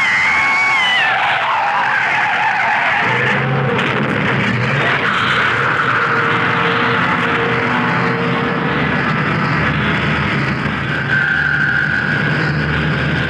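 A car whose brakes have failed skids with loudly screeching tires, then gives way to a sustained roar of engine and grinding noise that fills the rest of the scene. No one speaks.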